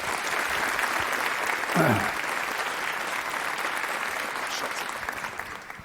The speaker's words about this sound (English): Please welcome, with a very warm applause, Julian Oliver and his server infrastructure for Global Rebellion talk.